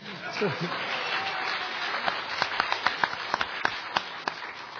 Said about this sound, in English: The rest of you can clap. Go ahead.